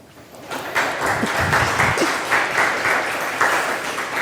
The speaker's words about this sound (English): And a warm applause for you, maybe first before we start with the questions.